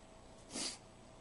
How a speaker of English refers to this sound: Sorry for the sniffles.